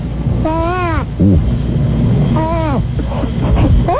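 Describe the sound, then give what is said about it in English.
A voice imitates a high-speed dentist drill with whining tones that bend up and down in pitch, in two main bursts with shorter squeals between, over a steady low rumble. “How about a high-speed dentist drill?”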